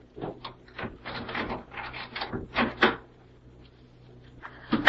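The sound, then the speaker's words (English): A key scrapes and rattles in a lock in a quick series of metallic clicks and knocks, then a door clunks open, with a faint hum underneath. “Give me your key. I'll open the door.”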